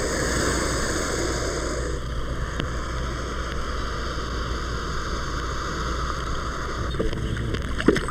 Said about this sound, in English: And the American alligator. Listen carefully again, and at the end of this next fluttering hiss, you can hear the alligator's giant jaws snap shut.